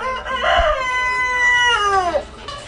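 An old rooster in a cage crows once, loud, a long harmonic cock-a-doodle-doo that rises, holds, then drops at the end over a faint background hum.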